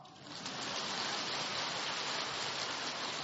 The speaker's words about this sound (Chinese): 感恩我们的师父，鼓掌。